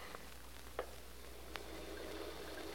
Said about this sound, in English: The water had been turned off. Well, what's so important about that? I'll let you know in a moment. I want to turn on that shower.